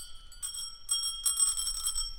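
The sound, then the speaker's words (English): A bicycle bell on an ice-cream-green bike rings in a few quick bursts, its bright metallic trill sustained and shimmering, with no talking. “With thousands of bells attached to my bike.”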